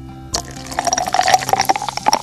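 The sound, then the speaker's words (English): Soda pours into a cup, a steady splashing, fizzing stream that starts abruptly and runs for about two seconds, with no one speaking. “Gotta pour some more soda here real quick.”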